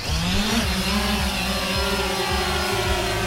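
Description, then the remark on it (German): A steady, buzzing motor drone of flying drones searching fields for fawns with a thermal imaging camera during a fawn rescue in early June, with a continuous high whine and layered harmonic tones that waver slightly in pitch, like an insect swarm. No one speaks. “Das waren nicht etwa Insekten, die man hier gerade gehört hat, sondern Drohnen, die die Felder mit einer Wärmebildkamera nach Rehkitz absuchen.”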